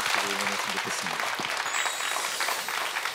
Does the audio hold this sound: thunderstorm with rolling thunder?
no